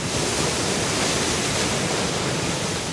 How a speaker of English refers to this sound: Kurt Johnson's looking over a railing at a surging jet of water, launching at least 50 feet into North St. Vrain Creek at the base of Button Rock Dam in northern Colorado.